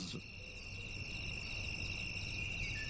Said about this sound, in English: Good to know there are crickets around here anyway.